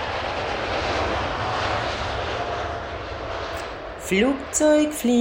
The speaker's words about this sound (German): Flugzeug fliegen, komm wir wollen Flugzeug fliegen. Wolken da und hier, dadurch da fliegen wir.